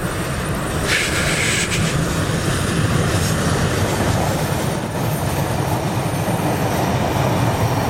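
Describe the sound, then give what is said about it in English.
A passenger train rumbles steadily past on its way down a gorge, a loud, continuous low roar of wheels on rails with brief high metallic squeals early on, and no one speaking. “Sorry, and that's a passenger train coming through, goes down the gorge.”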